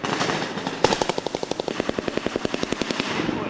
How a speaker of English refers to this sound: Attack helicopters swoop overhead. Abrams tanks and Bradley fighting vehicles rumble as the assault on Sadiq heats up. Red muzzle flashes crackle and smoke rises from the woodline and nearby windows.